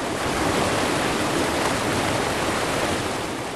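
A steady, dense roar of rushing water, like a fast torrent pouring through a channel, loud and continuous throughout with no voices.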